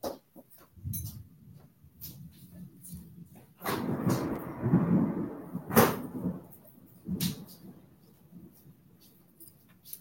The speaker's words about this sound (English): So it is raining and it's thundering and lightning and everything. I don't know if you all like the rain or not, but I love the rain. It's so comforting and so calming.